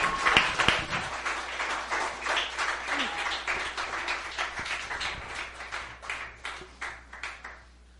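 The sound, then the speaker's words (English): An audience bursts into applause and cheering in praise of the Lord, dense clapping that is loudest at first, then thins into looser, rhythmic claps that slowly taper off by the end. “Give the Lord a cheer.”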